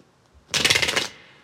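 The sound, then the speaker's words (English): A quick riffle of shuffling cards: a half-second burst of dense, rapid papery clicks, fairly loud and bright, ending abruptly with no voices. “Sorry, I'm still shuffling.”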